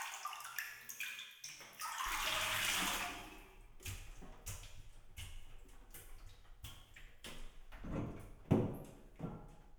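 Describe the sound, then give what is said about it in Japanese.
Water sloshes and splashes in a surge as someone rises out of a bath to sit on a chair and wash, followed by scattered dripping, light knocks and clatters; no one speaks. “お風呂から上がってこっちの椅子に座ってください。”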